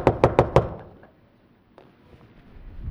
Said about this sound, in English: He's sitting in his living room, looking out the picture window, and notices this bear walk up into his front yard. And as he's checking out, the bear slowly saunters up to his front door, pauses, and knocks.